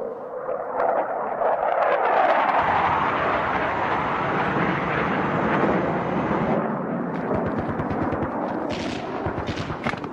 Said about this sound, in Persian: چه خبره؟ این هواپیما کجا داری میاد؟ از منطقه عملیاتی هورالعظیم قربان.